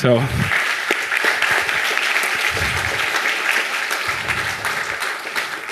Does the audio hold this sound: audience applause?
yes